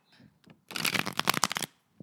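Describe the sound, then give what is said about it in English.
A tarot deck is riffle-shuffled, a fast burst of crisp flapping clicks lasting about a second, preceded by a couple of faint soft handling sounds. “I'm going to do three reshuffles because that's my go-to when I'm not doing it with as much time as I usually like to take.”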